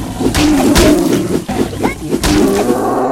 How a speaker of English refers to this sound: That was a leopard.